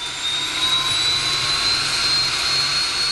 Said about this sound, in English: A plane owned by the National Aeronautics and Space Administration, or NASA, prepares for takeoff from Truax Field in Madison. It's heading for high above Lake Michigan near Sheboygan.